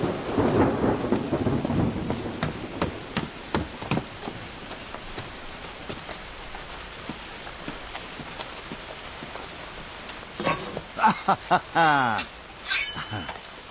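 Steady rain pours down while a deep roll of thunder rumbles at the start, then fades into a constant wash of rainfall; near the end, brief voices sound over the downpour.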